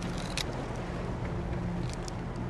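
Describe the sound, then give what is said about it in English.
A motorboat's engine drones steadily at low pitch as two men pilot it out onto Lake Tahoe at sunrise, beneath a constant wash of water and wind noise, with a few brief splashy ticks and no voices. “pilot their boat out onto Lake Tahoe.”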